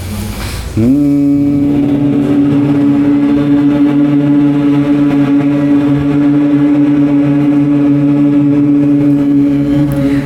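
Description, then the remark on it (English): A person hums one long, unbroken, buzzing bee-like tone with the mouth closed, a high-pitched hum made on the exhale during Brahmhari Pranayama (bee breath) breathing practice. After a brief pause it holds steady and loud for about nine seconds, with no talking. “So if everyone could just sit comfortably straight, inhale, and then keeping your mouth closed, exhale and make a little bit of a high-pitched humming sound like a bee.”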